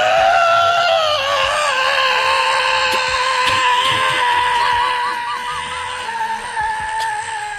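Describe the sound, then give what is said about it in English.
A boy lets out a long, loud, high-pitched scream, the pitch wavering and warbling for several seconds before easing off slightly near the end. “Just then, Goldie Pops woke up and saw the three bears. He screamed.”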